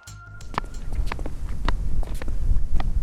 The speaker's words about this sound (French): Alors aujourd'hui, on est à la citadelle au Vieux-Port. On est en hauteur, il y a beaucoup de vent quand même, avec du soleil.